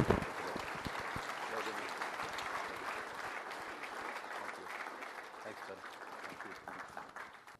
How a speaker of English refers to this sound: Hey, give them a hand there.